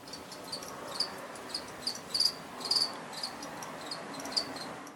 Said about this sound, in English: Crickets, people, crickets.